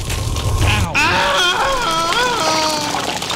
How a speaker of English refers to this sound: Yeah, that's the lava sound. Lava Lake, Act 1.